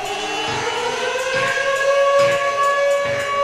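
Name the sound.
alarm siren sound effect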